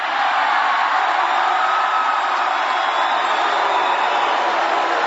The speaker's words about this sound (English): And that crowd booing went on for probably another 15, 20 seconds.